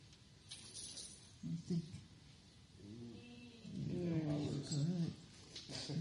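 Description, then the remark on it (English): A 14-year-old rescue dog whimpers and whines for a treat in a few drawn-out, wavering bursts, moderately loud, over a soft background hiss. “She's a rescue dog.”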